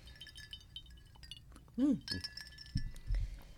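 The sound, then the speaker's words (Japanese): Cups, one holding tea, clink together in a toast: a few bright ringing taps, with low murmuring voices and soft clatter around them. “お茶です はい、では今夜もよろしくお願いします。 乾杯。”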